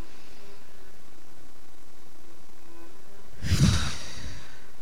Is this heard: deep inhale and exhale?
yes